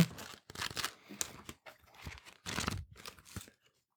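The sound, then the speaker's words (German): Several quick bursts of papery rustling and crinkling as the pages of two paper pads are flipped, coming in irregular clusters with short pauses between them; no one speaks. “Dafür, dass sie durch das Blättern von zwei Blöcken hergestellt wurde, ist das eine bemerkenswert vierschichtige Frage, finde ich.”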